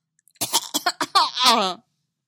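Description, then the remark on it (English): A sudden fit of coughing from a man who sipped a drink expecting alcohol and found it was hot calf: four or five sharp hacks in quick succession, trailing into a strained, sputtering rasp before falling silent. “but he took a sip anyway, expecting alcohol and coughing when it turned out to be hot calf instead.”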